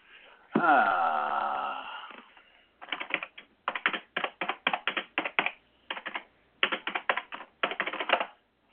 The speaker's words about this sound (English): You can probably hear me clunking on my ready-mix typewriter.